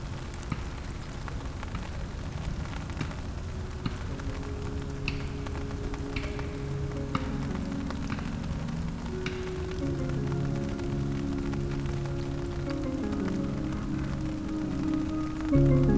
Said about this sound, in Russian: Начинается дождь, и лучшее, что можно сделать, это открыть зонт, достать термос и переждать непогоду.